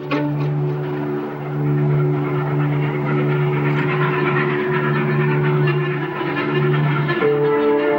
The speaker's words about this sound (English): Time passes slowly as the two men wait. A train approaches.